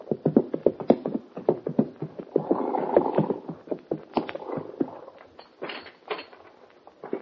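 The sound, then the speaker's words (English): Horses' hooves clip-clop in a steady rhythm as Hoppy and the kid ride up to the door of Mort Robertson's ranch house on Clear Creek, several animals walking together, with a brief softer shuffling stretch in the middle before the sharp hoofbeats resume and slow. “Only a few minutes after the meeting on the plane, that Hoppy and the kid ride up to the door of Mort Robertson's ranch house on Clear Creek.”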